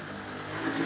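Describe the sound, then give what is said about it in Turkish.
A gasoline engine revs and roars in a steady, dense mid-pitched drone that swells slightly louder toward the end, with no voices over it. “O motor bile bağırması bile mesdir.”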